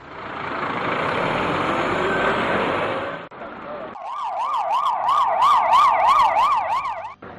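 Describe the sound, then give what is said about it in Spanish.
Street noise in the town of Lorca the day after an earthquake: a heavy military truck rumbles loudly past for a few seconds, then an emergency siren wails up and down in quick, repeating sweeps. “Al día siguiente de este terremoto, de hace 10 años, Lorca sonaba así.”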